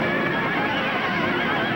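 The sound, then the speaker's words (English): Several horses neigh and whinny with wavering, high cries over a thick, constant roar of commotion, loud throughout, with no one speaking, during a battle in which archers fire arrows and men fall from their horses. “Men fall from their horses and the field is littered with arrows.”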